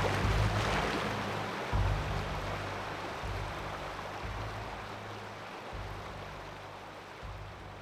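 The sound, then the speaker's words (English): A fast river current rushes in a steady, roaring wash of water as it sweeps around a sharp bend and goes over a waterfall, loudest at the start and slowly easing, with a deep intermittent rumble underneath. No one speaks. “The rapidly moving current gathered even more force as we swept around a sharp bend in the river.”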